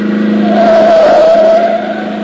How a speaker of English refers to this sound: That car coming. Boy, is he traveling.